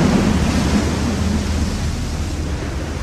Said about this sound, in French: Au bout de quelques heures, une énorme tempête se lève. 60 ans après, je revois ces vagues gigantesques qui soulevaient le bateau en nous laissant voir le fond de la mer.